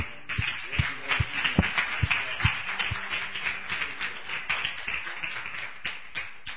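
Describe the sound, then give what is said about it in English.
An audience applauds the Lord together, a dense patter of many hands clapping steadily with sharper individual claps standing out near the start, at moderate volume. “Let's give the Lord an applause.”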